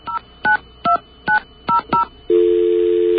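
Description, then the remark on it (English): Six quick touch-tone beeps as a radio station's phone number is keyed in, each a short, clear dual-pitched blip, followed by a steady, unbroken telephone tone humming at the end. No voices. “Let's get our friendly dial tone. All right. Let's dial WBAI first”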